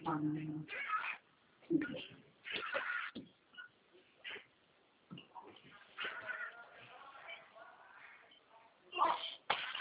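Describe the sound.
Several cat meows, moderately loud, come in short, irregular bursts over a muffled, phone-like background with someone talking in between.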